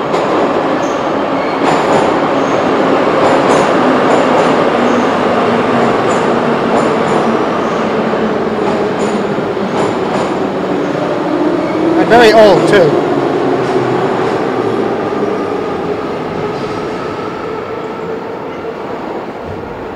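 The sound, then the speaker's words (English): A metro train rumbles steadily into a station, its broad mechanical roar slowly easing off, with brief clicks and a squealing screech midway as it slows. A person speaks briefly over the noise. “And a train is coming.”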